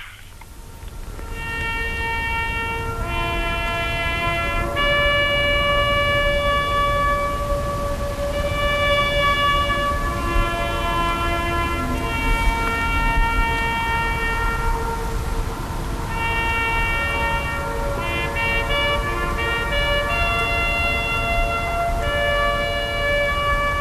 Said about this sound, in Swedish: Det brusar ju en del där, men man hör ju fanfaren i skogen. Det låter lite trollskt, måste jag säga.